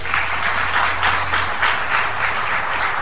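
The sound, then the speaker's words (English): Sustained applause from a large crowd at the Neshoba County Fair in Mississippi, addressed by Governor Tate Reeves and House Speaker Philip Gunn; dense steady clapping fills all three seconds at a fairly loud, even level, with a low hum underneath and no talking. “That was Governor Tate Reeves and House Speaker Philip Gunn addressing crowds at the Neshoba County Fair last week.”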